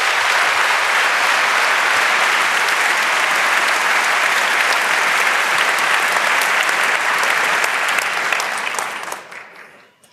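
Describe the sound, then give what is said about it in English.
A large audience at the CCC claps steadily to welcome speakers on Recount 2016, a security audit of the US presidential election, in a dense, sustained roar of applause lasting several seconds, then the clapping thins and fades away at the end. “Please give them a very warm welcome and a huge round of applause.”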